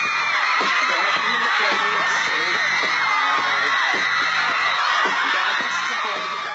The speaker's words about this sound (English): Screaming teenagers would pile into Times Square, either inside MTV's fishbowl-like studio or out on the street, shrieking for favorite pop stars and their videos